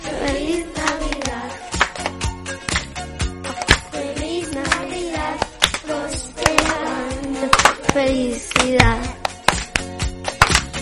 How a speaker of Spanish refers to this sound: Venga, con las palmas.